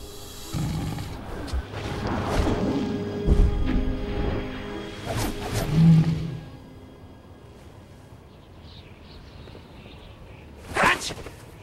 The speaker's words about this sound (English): The dragon roars and breathes white energy over Roshi's body.